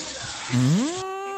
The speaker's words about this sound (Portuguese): Então, confesso que eu e minha esposa estamos fazendo o jantar agora. Ó, barulho da panela de pressão.